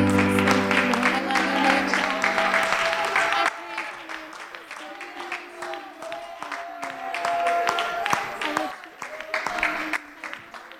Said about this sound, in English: Can we all give Him a hand clap of praise? Hallelujah.